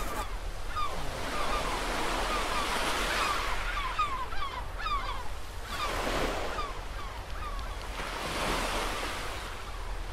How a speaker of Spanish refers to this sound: más práctico, se descalza, se sube un poco la ropa y chapotea por las suaves olas de la orilla